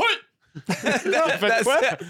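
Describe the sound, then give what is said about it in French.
A man's voice mimics a race car's engine failing during a Grand Prix: one short vocal burst, a brief pause, then a loud run of choppy, sputtering noises whose pitch wobbles up and down before trailing off. “Et là, ben, le moteur a fait comme...”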